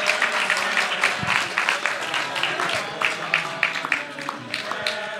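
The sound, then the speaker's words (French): A room full of people applauds steadily, the dense clapping sustained and fairly loud for several seconds, with some voices and cheers mixed in; the audience is applauding for Peter Jackson's birthday on Halloween night. “Éventuellement lui chanter un petit quelque chose ou applaudir, parce que c'est quand même...”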